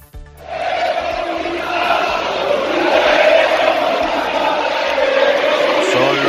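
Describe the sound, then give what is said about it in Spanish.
A large stadium crowd at the Estadio de Vallecas in Madrid shouts insults during a Rayo Vallecano versus Albacete football match, a loud, sustained roar of many voices chanting and yelling together without pause for several seconds after a brief quiet start. “tiene una repercusión tremenda estos gritos que escuchábamos ayer”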